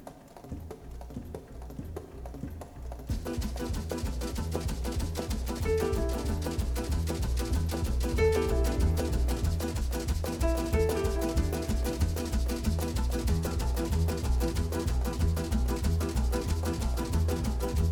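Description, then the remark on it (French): The intro of an Italian song about the Topolino car plays: a quiet opening, then a full band kicks in with a steady, bouncy beat and melodic lines on top. No singing or talking is heard yet. “Et on va entendre, vous allez reconnaître le chanteur, il est connu celui-là.”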